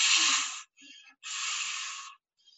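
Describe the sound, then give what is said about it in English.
A person imitates a deer panting, as in Psalm 42's "As the deer pants": two long, loud, breathy huffs with a shorter, softer breath between them and a faint puff at the end, without words. “"As the deer pants." Can you see him panting?”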